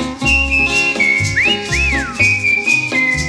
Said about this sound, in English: Whistle now.